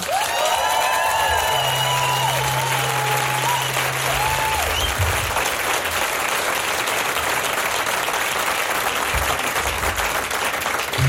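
A large crowd at a music showcase bursts into sustained, loud applause with cheering and whistles as a singer and band are welcomed for four songs, a steady dense roar of clapping lasting throughout, with a brief low tone and a few high whoops early on.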